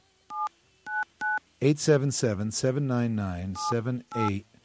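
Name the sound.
telephone keypad dialing tones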